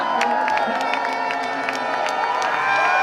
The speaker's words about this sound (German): Um 21.39 Uhr erreichte der Meistertitel offiziell Berlin. Kapitän Max Dari bahnte sich mit dem silbernen, tellerähnlichen Pokal einen Weg durch die dichte, jubelnde Menschenmenge.